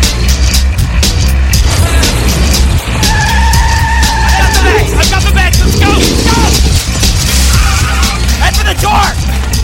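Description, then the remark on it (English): Truck tires squeal and skid loudly as a truck squeezes through a doorway, with a heavy engine rumble running underneath and a sustained screech midway, while voices are partly buried in the chaotic noise. “How does a truck squeeze through a doorway?”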